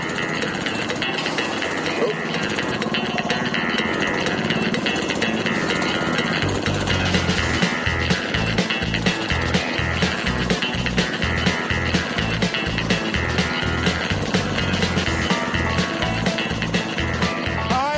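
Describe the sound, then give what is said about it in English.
A small buggy's engine runs loud with a rough, steady drone, joined by regular low thumping pulses as the vehicle is driven along. “And buggy. Cross that one off the list.”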